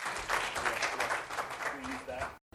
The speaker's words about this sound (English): There you go. You can clap. Yeah.